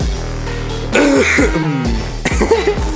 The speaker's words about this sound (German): Ups, ich muss husten.